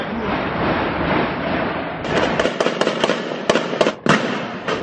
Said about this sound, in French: C'est l'assaut qui est mené par le raid, avec énormément de coups de feu, des explosions. Dans cet appartement de Saint-Denis, il y a trois personnes.